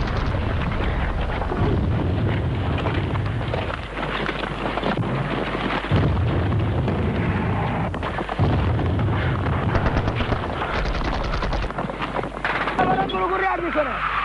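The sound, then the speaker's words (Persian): Heavy artillery fire rumbles nonstop during Operation Tariq al-Quds, Iraqi heavy fire and counterattacks on the southern and Dehlavieh fronts: dense low booms mixed with crackling gunfire, staying loud and churning throughout with a voice faintly present beneath the din. “عملیات طریق القدس به علت آتش سنگین و پاتک‌های شدید عراقی‌ها در محور جنوب و محور دهلاویه گره می‌خورد.”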